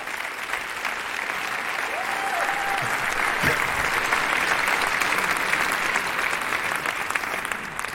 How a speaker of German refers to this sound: Ah! Ach, gucke mal! Das hätten wir es geplant. Ein Applaus für die Logistik.